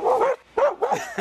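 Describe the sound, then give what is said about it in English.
A dog barks three times in quick succession, loud, with sharp yappy barks separated by brief pauses and no talking. “Look at the dog doesn't know.”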